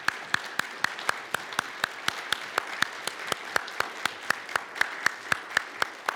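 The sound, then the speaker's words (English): A church audience, standing on their feet, applauds steadily, with sharp, evenly spaced claps standing out over a dense wash of clapping that holds for several seconds at moderate volume. No one speaks. “Y'all stand to your feet and just applaud.”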